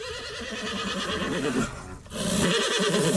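A horse neighs loudly, a long, shaky whinny with a brief dip in the middle before it rises again in a second strong burst. No one is talking.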